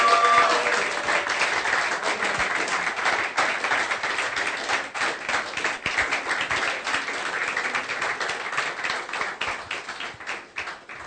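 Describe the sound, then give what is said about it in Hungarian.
A church audience applauds four people about to be baptized, steadily for about eleven seconds, a dense, bright wash of many hands clapping at once that holds fairly even in loudness, with no voices over it. “Adjunk nekik egy nagy tapsot.”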